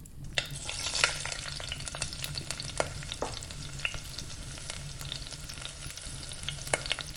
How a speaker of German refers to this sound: Unten in der Küche hörst du deinem Vater schon das Essen zubereiten.